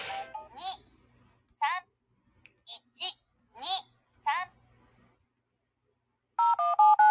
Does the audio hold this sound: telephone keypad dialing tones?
yes